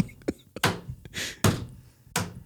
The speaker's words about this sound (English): Somebody's at the door. Wait. Come in. Creak.